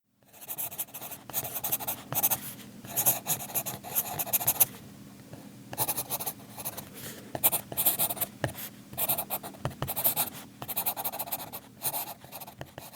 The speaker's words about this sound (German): Klingt wie ein schnuffelnder Hund, ist aber ein Bleistift.